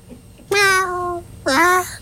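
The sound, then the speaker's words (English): A human voice imitates a cat with two drawn-out meows, the first long and falling, the second shorter with a rising-then-falling bend, loud against a quiet background. “Meow.”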